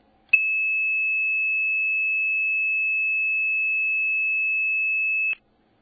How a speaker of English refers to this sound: And what you will hear coming down your phone line in just a second is 2600 hertz.